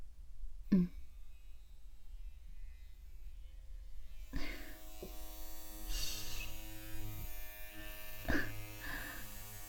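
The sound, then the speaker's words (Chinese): Electric hair clippers buzz steadily during a haircut, a continuous motorized hum with several brief surges in pitch and loudness as they are pushed up the neck from the nape against the hair. No one speaks. “就是感觉这个推子凉凉的，又一直嗡嗡的在脖子上贴着颈窝推上去，弄得人有些酥酥麻麻的。”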